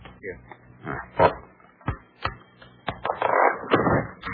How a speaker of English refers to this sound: Look at this drawer. It isn't as deep as the others. Why, it has a false bottom. Why, so it has. Can you take out that false bottom, Dr. Carew? Yes. Hand me that letter opener, please.